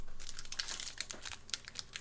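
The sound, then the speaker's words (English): Crinkling plastic wrapping as a package of cards is torn open, recorded on a Shure SM7B microphone, a steady run of crisp, bright crackles and rustles with sharper tearing bursts scattered throughout, no voices. “I love that package opening sound.”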